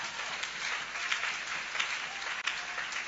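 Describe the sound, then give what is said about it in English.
An audience claps for Jesus steadily for about three seconds, a dense, even wash of many hands at constant loudness with a brief dip near the end, and no voices over it. “If you are clapping, clap for Jesus.”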